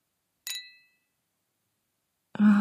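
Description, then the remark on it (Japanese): A single bright clink of glasses touching in a toast, ringing briefly before fading into silence; a couple of seconds later a louder, low voice-like sound begins. “では、乾杯。”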